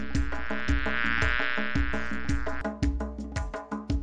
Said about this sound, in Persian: من زنبوری نوغلام، صدایم ویز و ویز، روی گل ها میشینم، شهد اونو میگیرم، عسل میسازم برات، تا بشی خوب و شاد.